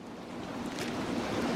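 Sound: splashing water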